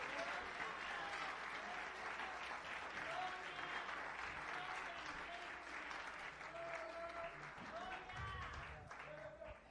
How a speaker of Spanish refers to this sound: Dámele un aplauso al Rey de Reyes y Señor de Señores.